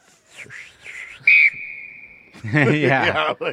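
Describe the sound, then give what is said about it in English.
A whistle is blown in one sharp, loud blast that settles into a steady, thinner tone lasting about a second, with voices talking before it and breaking into chatter right after. “We're going to have a little whistle.”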